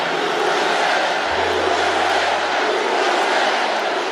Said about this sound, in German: aus dem Publikum USA-Sprechchöre.